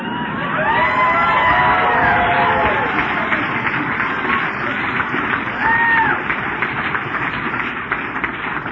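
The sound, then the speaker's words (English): An audience bursts into steady, loud applause mixed with whoops and cheers, the dense clapping holding for several seconds before easing slightly toward the end. “Now, I promise you that those who adhere to that point of view did not clap right then.”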